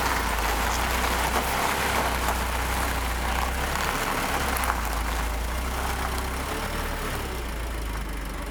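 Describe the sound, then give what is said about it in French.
A heavy aerial lift truck, used to reach antennas on the heights of Aubusson, drives past, its diesel engine rumbling steadily, a loud low drone that stays nearly constant throughout, with no voices. “Ce qui vient de passer devant vous, c'est le camion nacelle qui va nous permettre d'accéder aux antennes.”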